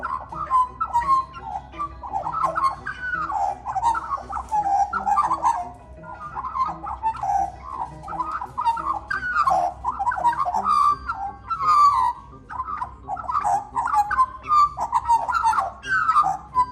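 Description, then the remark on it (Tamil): A pet magpie named Molly, recorded soon after arriving at a family's home, calls in a long, unbroken run of fluting, warbling notes that rise and fall, loud throughout, with no talking. “ஒரு மக்பாய் பறவை சாதாரணமாக இப்படித்தான் குரல் கொடுக்கும்.”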